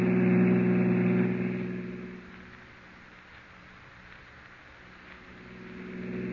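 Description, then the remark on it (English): A car engine roars loudly with a deep, steady drone, then eases back to a lower, continuous hum as the vehicle keeps driving. A police officer is driving the car as fast as he can toward a bridge. No voices are heard. “I'm driving as fast as I can,”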